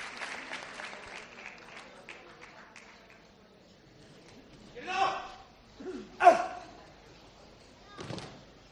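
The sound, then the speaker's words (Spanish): A crowd applauds on Holy Thursday as the image of the Cristo de la Buena Muerte is placed on its throne, with dense, steady clapping that gradually thins out, followed by a few louder bursts of sound rising over the fading claps. “Ya está entronizado, el aplauso, la imagen del Cristo de la Buena Muerte en su trono.”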